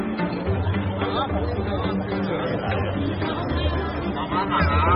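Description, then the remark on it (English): A dense crowd of temple worshippers chattering as they move through with unlit incense sticks to get them lit, many overlapping voices forming a steady, loud hubbub with no single speaker standing out. “The crowd's moving through with their unlit sticks, going through here and getting them lit, and then they're walking back up towards the temple.”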